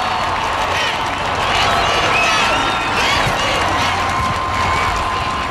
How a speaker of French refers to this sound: Sur la grande scène, un homme fait son apparition. Il marche d'un pas confiant de ceux qui rassurent et s'installe derrière le pupitre. Le public, lui, est en liesse.